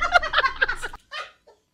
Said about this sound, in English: Okay, those are real hens. Okay. Here are our hens.